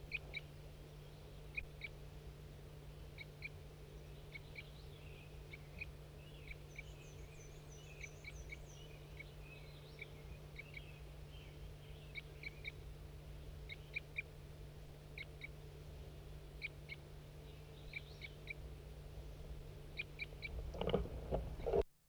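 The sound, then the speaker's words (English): A wild bird calls repeatedly in short, high-pitched chirps and trills, scattered irregularly over a low, steady hum. The calls are fairly soft, and nobody speaks. “I can't see the bird, but this is a wild bird.”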